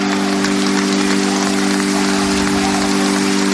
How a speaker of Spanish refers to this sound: Pues de esta manera, con aplausos y la bendición del Papa Francisco, ha terminado la ceremonia